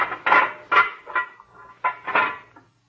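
A small steel door creaks and clanks as it swings open and shuts, producing a handful of ringing metallic bangs and scrapes over a few seconds, with no one speaking.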